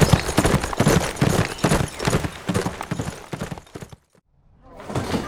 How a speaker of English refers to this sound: Then the ranger went to Symphony and took the lead as the group thundered away at full gallop, putting St. Mirabel far, far behind them before the sun climbed high in the east.